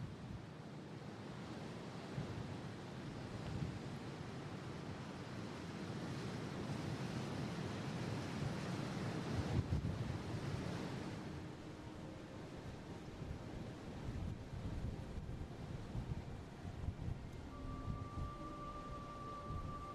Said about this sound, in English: Anyway, here's a track in the middle of the Saddle with the ocean either side and very strong winds blowing between this narrow gap.